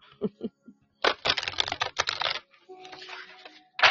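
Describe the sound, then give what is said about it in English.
A deck of large cards is shuffled by someone holding a baby in their arms, a dense burst of rapid, papery clicking lasting over a second, with brief murmured voice sounds before and a soft tonal hum after. “Shuffle these cards. I'm trying, you guys. These cards are really big, and then I got baby booty in my arms, too.”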